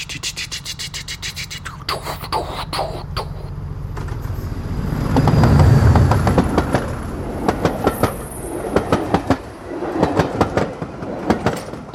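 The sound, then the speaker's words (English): An old mechanical train rumbles past with steady clattering and rhythmic clicks of metal linkages, the low rumble swelling midway, then sharp repeated clacks continuing. “You know, the old trains, so mechanical, all the linkages.”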